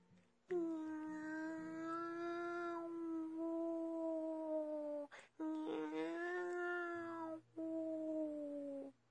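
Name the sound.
cat howling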